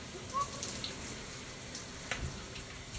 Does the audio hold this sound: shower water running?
yes